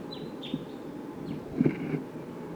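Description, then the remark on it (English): Several thin, high, down-slurred calls of wild birds come at irregular intervals, fairly faint, over a steady background rumble of wind and outdoor noise. “There are wild birds here. Calling less now.”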